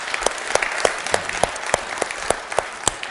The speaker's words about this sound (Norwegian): Fantastisk lovsang vi har i dag. Skal vi gi dem en klapp?